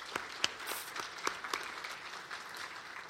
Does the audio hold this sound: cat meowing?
no